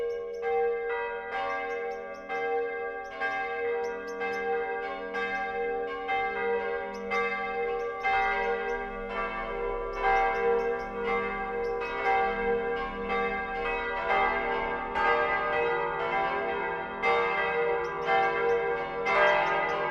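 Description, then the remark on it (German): The noon ringing of the Evangelical Lutheran St. James's Church (Jakobskirche) in Rothenburg ob der Tauber, Middle Franconia, Germany, about 80 km west of Nuremberg: several church bells peal together in a dense, continuous overlapping clang, rich in ringing overtones, steady and fairly loud throughout with no voices. “Das Mittagsläuten kommt heute von der evangelisch-lutherischen Jakobskirche im mittelfränkischen Rothenburg ob der Tauber.”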